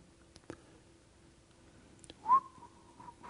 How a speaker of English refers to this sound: That's my whistle for like, this could be trouble for people.